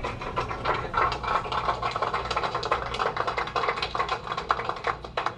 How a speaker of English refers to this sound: The applause says it all. Radio science does see the expected signal.